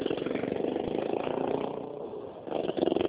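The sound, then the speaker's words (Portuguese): A motorcycle engine drones steadily, dipping briefly before swelling louder again as it passes by, with no one speaking. “Peraí, se eu não entendi que a moto passou.”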